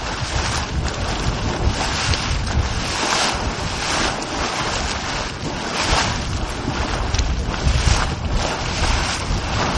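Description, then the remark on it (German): Thick mud bubbles and churns in a steady, loud wash of gurgling and rushing noise, with occasional stronger surges and no voices: a geothermal mud pot in Iceland. “Manchmal blubbert der Schlamm vor sich hin.”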